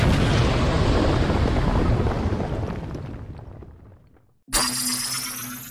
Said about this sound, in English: Where's the kaboom? Two. There was supposed to be an earth-shattering kaboom.